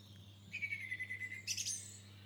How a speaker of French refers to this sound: Toi aussi, tu entends des oiseaux chez toi ?